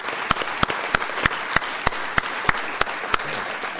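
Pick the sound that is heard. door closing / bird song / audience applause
audience applause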